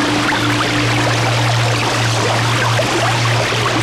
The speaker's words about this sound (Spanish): Era Atoyatl, el río. Pronto su caída la puso en contacto con el agua y... Le encantó esta cama de agua fresca.